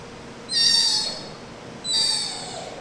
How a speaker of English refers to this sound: That's Agnes, a 7-month-old sea otter pup who was rescued and sent to the Alaska Sea Life Center in Seward. She's swimming around a pool with another orphaned otter.